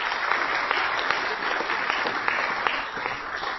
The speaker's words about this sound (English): So how about a round of applause for all those who are here in attendance?